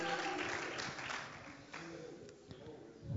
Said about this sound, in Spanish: Clap your hands and give him glory. Un aplauso a él.